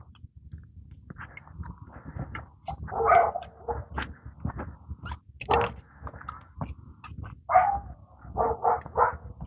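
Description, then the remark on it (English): A dog barks repeatedly in uneven bursts, the barks fairly loud and clustered toward the end, over a steady low rumble of background noise. “You can hear the dog. I'm sure you can hear the dog.”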